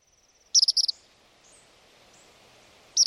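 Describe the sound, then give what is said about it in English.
A tropical kingbird gives a high, thin twittering call: a quick stuttered burst of sharp notes, a pause over faint outdoor hiss, then another burst starting at the end. “This is a sound Northwesterners are not used to hearing. It's a tropical kingbird.”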